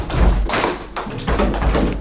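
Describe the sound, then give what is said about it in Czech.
About 20 children sitting in a circle in a classroom at the SCIO primary school in Prague's Stodůlky bang away on drums, tables, stools and the bottoms of empty plastic crates, a loose clatter of thumps and taps overlapping in an uneven, busy rhythm with no one speaking. “Na koho nevyšel přímo bubínek, bouchá do stolku, stoličky nebo třeba na dno prázdné plastové bedínky.”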